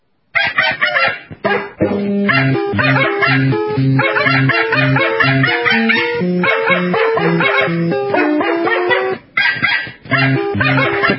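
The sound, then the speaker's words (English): Dogs bark and yip loudly and continuously in a rapid, repeating, almost sing-song rhythm in a commercial for a dog probiotic, with a brief pause near the end before the barking resumes. “So let's give a listen to this new dog probiotic commercial.”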